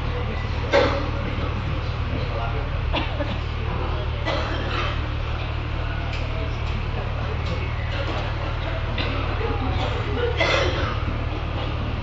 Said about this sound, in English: Don't continue because he's coughing. One Maharaj was coughing, having some infection maybe.